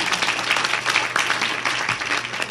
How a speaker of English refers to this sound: Thank you, students, for coming out tonight. Let's give a round of applause to our students.